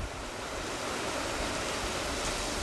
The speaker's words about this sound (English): Drenching rain and wind swept over this Ukrainian border post, where just a day before, refugees had been driven back by fierce fighting.